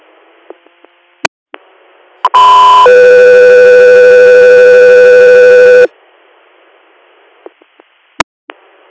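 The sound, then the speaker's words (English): A loud, steady electronic radio dispatch alert tone for an air medical crew's inter-hospital response sounds for about three seconds, a short higher pitch stepping into a sustained harmonic drone, surrounded by faint radio static and a few sharp clicks. “Air, stand by for tones.”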